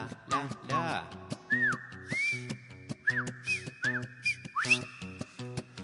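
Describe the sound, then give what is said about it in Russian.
A short whistled tune with bright rising and falling notes, played over a steady rhythmic musical backing, clear with no speech. “Я уже к резинам пришел и насвистывал дырочкой в правом боку”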